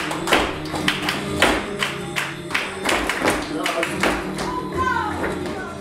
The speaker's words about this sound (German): Alle tragen weite Röcke und Schuhe mit dicken Absätzen. Zu der Musik drehen sie sich, stampfen auf den Boden, werfen ihre Arme in die Luft und ganz wichtig, sie klatschen.